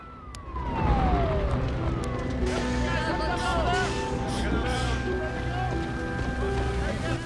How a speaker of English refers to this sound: Two fire engines drive up and firemen leap into action.